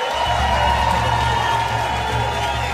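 A crowd applauds and cheers in a steady, dense wash of clapping with scattered whoops, holding at a fairly even loudness for the whole stretch, with no speech on top.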